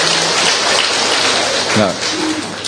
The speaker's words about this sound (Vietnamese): Bà cụ kia là 91, còn bà này, thưa anh chị em, mời bà lên. Chúng ta cho một tràng pháo tay coi, chào bà lên coi.